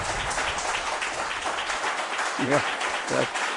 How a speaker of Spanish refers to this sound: Pido un aplauso de la gente que está aquí. Muchas gracias.